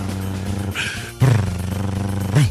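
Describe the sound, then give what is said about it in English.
A voice imitates a drum roll with a steady, buzzing rolled trill that swells louder partway through and holds for a couple of seconds, sounding more like a sputtering engine. “So that sounds more like a moped than a drum roll.”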